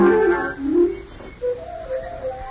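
Birds singing in the trees: a run of clear, whistled chirping notes that rise and fall, starting in a rich warbling cluster, then thinning into a few short, separate calls.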